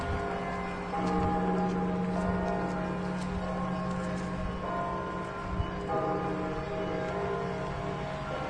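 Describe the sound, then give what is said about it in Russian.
Church bells ring steadily, their layered, lingering tones overlapping with repeated strikes, heard while walking along Malysheva Street toward the church, over faint outdoor street ambience, with no one speaking. “Колокольный звон слышен, я думаю, на весь город.”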